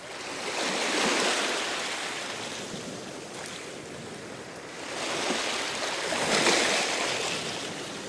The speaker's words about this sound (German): Lehnen Sie sich mal zurück, schließen Sie die Augen und hören Sie das Meeresrauschen.